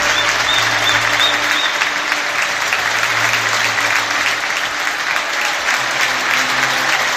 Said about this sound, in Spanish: Esa era la ovación espectacular que le daba el público del Sardinero a su estrella, a su figura, un niño de apenas 19 años que ha triunfado, la mayor estrella del fútbol cántabro en la última década y que se despedía del Sardinero, su casa,